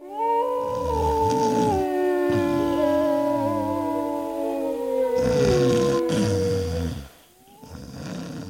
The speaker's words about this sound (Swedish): Vargar, tror jag. Hörde du något annat också? En snark. Just det, snarkningar och en varg som ylar mot månen.